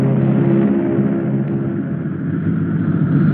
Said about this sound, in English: Passing over the mountains, the plane drops its landing gear as it approaches Bombay.